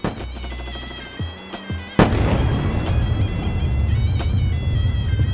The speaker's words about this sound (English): Night of 13th. To 14th of July 2006, 4 a.m. The Israeli Air Force flies over Beirut. Far away, we hear bombs falling down. Silence. We begin to hear shots far away.